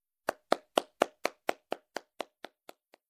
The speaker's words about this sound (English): He listens to the students' practice. He's very happy. He's clapping.